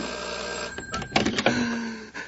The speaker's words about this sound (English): The phone. The phone. It's ringing again. It's ringing again.